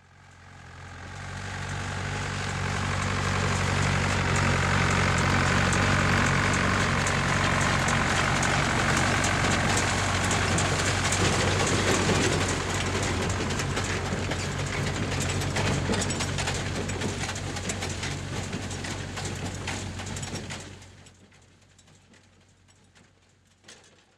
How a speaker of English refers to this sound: The next sound that you will hear is of a tractor-drawn hay baler.